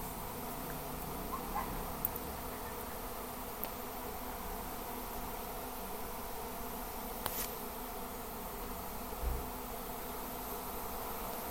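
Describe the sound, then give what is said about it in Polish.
A dense, steady buzzing like many bees in a hive, droning continuously at a moderate level with a few brief clicks and knocks scattered through it. No one speaks. “Mi ten dźwięk przypomina, jakby tu albo się znalazł jakiś ul z jakimiś pszczołami, albo nie wiem, co jest grane.”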